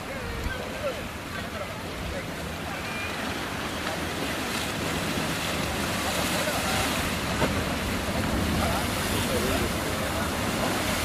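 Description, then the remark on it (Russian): A steady ocean wash of a new, small wave rolling in gently while spectators watch and wait for waves, a broad hissing surge that swells slightly toward the end, with gusty wind noise buffeting the microphone and a voice talking faintly underneath. “Новая волна так тихонечко накатывает.”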